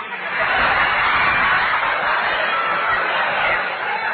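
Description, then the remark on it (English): A bird squawks loudly and without pause for about four seconds, a harsh, raspy chattering that stays steady throughout, with no voices over it. “That bird again. Shut up, you molting pest.”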